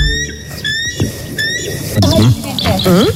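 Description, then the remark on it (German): A real bald eagle gives a series of high, thin chittering whistles in three quick bursts, clear, followed by a louder stretch of warbling, voice-like calls near the end. “Also so klingt zum Beispiel der echte Weißkopfseeadler.”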